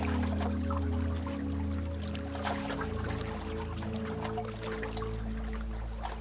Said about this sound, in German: Die Sonne, das Wellenrauschen und auch diesen besonderen Duft, dieses Salzige vom Meer.